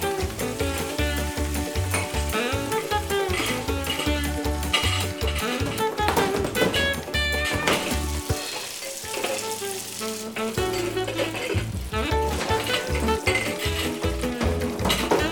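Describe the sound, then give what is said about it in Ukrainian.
Dishes being washed: a steady wash of running, splashing water with pots and plates clinking and clattering throughout, busy, with no one speaking. “Зможеш помити посуд?”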